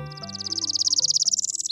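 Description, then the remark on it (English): A northern parula, a tiny North American warbler, sings a clear, rapid buzzy trill that climbs steadily in pitch and snaps off with a short emphatic note at the end, over soft background music. “The northern Perula is a tiny bird with a big personality.”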